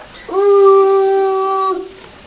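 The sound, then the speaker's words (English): A child's voice imitates a train whistle with one long, steady, fairly high "ooo" hoot that rises slightly at the start and holds level for more than a second before cutting off. “Is that the noise that the train makes?”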